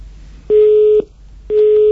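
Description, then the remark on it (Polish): A telephone busy tone after a listener calling in to a Radio Maria phone-in disconnects: a steady mid-pitched beep sounds twice, each burst half a second long with an equal gap between, clear with no voices. “Oj, rozłączyła nam się słuchaczka.”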